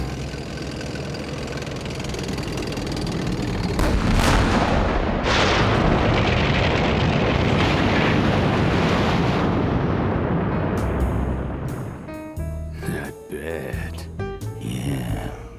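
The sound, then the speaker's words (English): A Panzer tank's heavy engine churns in a loud, steady rumble with gritty, roaring bursts for about twelve seconds, then cuts away to brief voices. “What is that? A Panzer?”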